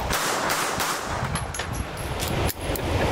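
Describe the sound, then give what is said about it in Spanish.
Three sharp pistol gunshots crack out at irregular intervals over a dense, noisy background, each a brief loud report; no one speaks. “Las armas se disparan siempre tres balazos.”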